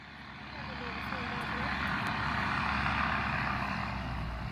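A heavy dump truck rolls down a residential street, its deep engine rumble and road noise swelling into a steady drone before easing off slightly at the end.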